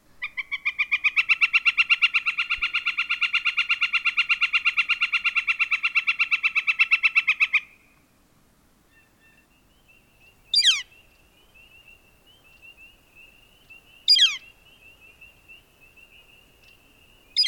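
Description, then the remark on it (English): A flicker woodpecker gives a long, rapid, even series of loud ringing notes for several seconds, then a few single sharp piercing calls spaced seconds apart, with no talking. “They are easy to identify by ear due to their distinctive call that sounds like they're yelling at us to wake up.”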